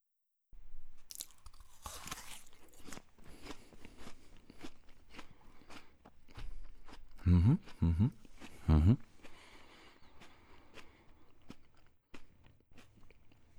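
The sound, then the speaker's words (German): A crisp crunch as someone bites into an apple, followed by a steady run of wet, crackly chewing with a few louder crunches midway. No one speaks. “Also, der Apfel hat sich jetzt nicht beschwert, dass ich in ihn reinbeiße.”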